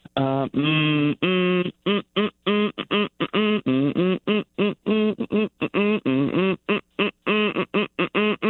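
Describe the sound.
A person hums a children's song tune, a rapid, bouncy string of short voiced notes with brief gaps between them, loud and clear with no other sounds.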